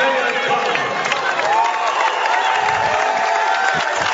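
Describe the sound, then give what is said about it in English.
A large crowd at a basketball game, including a huge crowd from Oakdale, roars and cheers continuously as players are introduced, a dense wash of voices with scattered whoops and claps, steady and loud throughout the few seconds. “They got a huge crowd from Oakdale behind us.”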